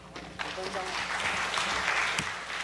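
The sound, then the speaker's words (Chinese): An audience applauds steadily at a talk, welcoming the next speaker: a dense, even patter of clapping that holds at a fairly constant level for a few seconds, with a brief murmur of voice mixed in early on. “那我们掌声鼓励。”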